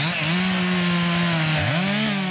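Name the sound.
chainsaw running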